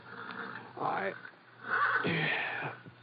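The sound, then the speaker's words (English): An agitated horse in a corral neighs twice toward dawn, a shorter whinny followed by a longer, louder, shrill one, over a low steady hum. “one of the horses down in the corral was sure upset about something.”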